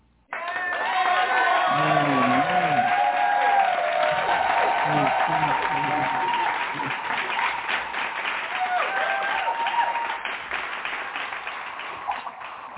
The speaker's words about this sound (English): So we're going to welcome her with a hand clap praise. Amen.